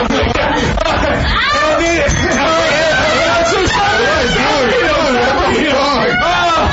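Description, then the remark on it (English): A woman cries out in pain while being beaten on a radio show, over a loud, chaotic tangle of three male voices cheering and shouting, continuous with no pauses for the full few seconds. “Do you hear her screaming in pain? I do. And do you hear three male voices cheering?”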